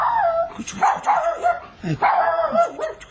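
A small dog barks in quick, high-pitched yaps, two bursts of several barks each with a short pause between, fairly loud with no voices over it.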